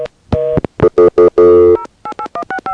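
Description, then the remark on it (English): A loud run of touch-tone phone keypad beeps as 0 plus a phone number is dialed to add a three-way call. Several longer tones come first, then a quick string of short dual-tone presses. No voices. “And then I three-way on 0 plus my own phone number.”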